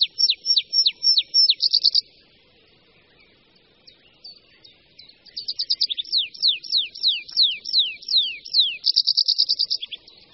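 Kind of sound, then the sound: bird, tree pipit song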